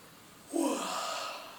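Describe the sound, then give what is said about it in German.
A single long, drawn-out yawn, deliberately provoked with the mouth opened wide to relax the jaw joints during a face self-massage exercise, opening with a voiced, breathy intake and trailing off into a soft exhale, with no talking. “den Mund weit öffnen. Ganz bewusst Gähner provozieren, Kiefergelenke entspannen.”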